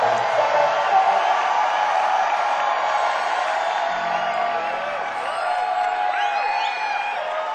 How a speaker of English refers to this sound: Come on, you gotta keep screaming. Come on, come on. Come on, help us out, help us out, help us out.